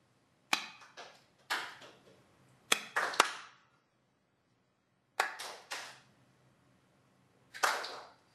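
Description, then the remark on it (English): Recorded hand claps played for listeners to clap along to in a small experiment: sharp, crisp claps arrive in uneven little groups, each with a short ringing decay, with quiet gaps between the bursts and no voices. “So we'll make a little experiment here where I'm going to play you the sound of clapping, and I want you to clap along with the sound.”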